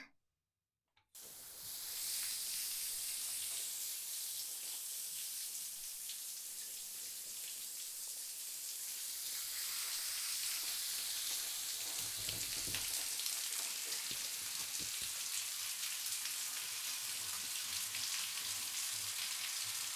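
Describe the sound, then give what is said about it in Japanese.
A shower sprays steadily to rinse treatment out of hair, a dense hiss of running water that starts abruptly after a moment of silence and continues unbroken, thickening and splashing more heavily partway through. No voices. “だからほら、シャワーで流すよ。”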